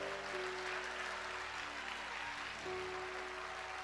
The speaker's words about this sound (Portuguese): Dê um forte aplauso a esse Cristo maravilhoso.